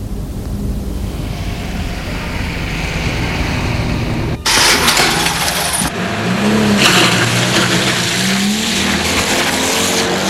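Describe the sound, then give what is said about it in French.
A scooter, the Marine, with a storage box, idles with a low rumble, then roars louder and revs up and down as it drives off, loud throughout, with no one speaking. “Trois mois plus tard, tu t'achètes un beau scooter, le Marine.”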